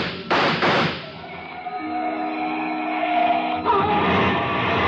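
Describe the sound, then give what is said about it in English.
Two sharp gunshots crack in quick succession as a man with a gun starts shooting beside a car that is starting up, followed by a long humming, ringing tail and another rougher burst near the end. No one speaks. “He looked mean enough to start shooting with it. He did.”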